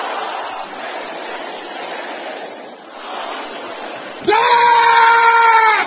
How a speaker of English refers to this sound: Brothers, can I hear you shouting the same thing?